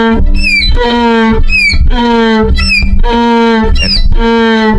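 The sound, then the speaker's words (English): A violin mimics a donkey's bray, sliding between a high squealing note and a lower sustained tone in a loud, repeated hee-haw pattern that runs through the whole clip, with no voices. “Donkey sound on the violin.”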